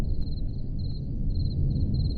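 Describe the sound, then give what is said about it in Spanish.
Crickets chirp at night in steady, high-pitched pulsing trills that repeat in short bursts, set against a low, constant background rumble, with no voices present. “Estos son grillos, ¿no? Claro, esto es de noche.”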